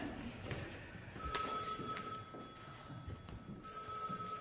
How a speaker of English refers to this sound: answer the phone. Oh, please be there.